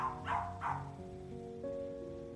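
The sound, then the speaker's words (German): Two quick barks from Paco the dog far off, soft and slightly muffled, rising over a steady, sustained musical drone that carries on after they fade. “Fast nebenbei, wie aus weiter Ferne, dringt Pacos Bellen an dein Ohr.”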